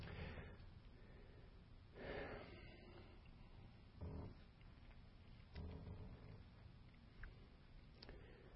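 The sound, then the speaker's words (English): Quiet, steady snoring with about four or five rasping breaths spaced roughly two seconds apart, heard faintly and alone against a low background hiss. “You don't have somebody snoring under this thing, do you?”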